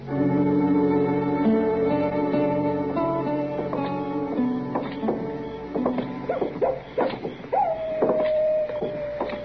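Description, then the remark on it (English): A coyote howls and yips: long wavering, high-pitched tones at first, then a burst of sharp, quick yips, ending in a drawn-out falling howl. No voices. “Listen to that miserable old coyote, Mr.”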